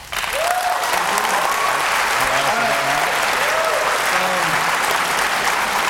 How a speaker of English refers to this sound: Let's try to keep the applause intense but short so we can get through as many questions as possible.